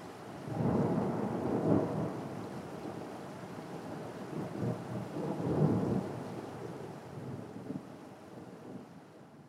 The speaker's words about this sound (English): The rain seems to be starting to slow down.